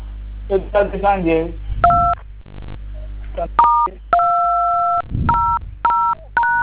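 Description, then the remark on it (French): A string of telephone keypad tones, about six or seven beeps of uneven length, one held noticeably longer, clear, following a short stretch of someone talking over a low background hum, as a caller dials code *215 for the MTN Extra Time service. “Évitez de toucher les boutons de votre téléphone, s'il vous plaît.”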